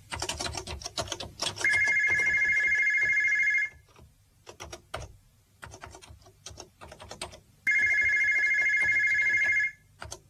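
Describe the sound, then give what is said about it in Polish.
A telephone rings twice at the reception of the company Paragem, each ring a steady electronic trill lasting about two seconds, over continuous clattering keyboard typing in an office. No one speaks. “vous pouvez répondre, s'il vous plaît.”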